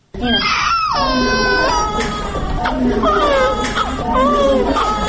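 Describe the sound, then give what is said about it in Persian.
Newborn twin baby boys, each over 2 kg and the first born from IVF in Tajikistan, cry at Maternity Hospital No. 1 in Dushanbe: continuous high, wavering wails that rise and fall in pitch for several seconds without pause, with no talking over them. “همکاری ما در دوشنبه زرنگیز نوروزشو با دیدن طفلان نوزاد رفت”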